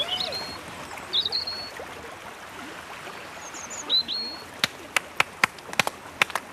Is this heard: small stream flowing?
yes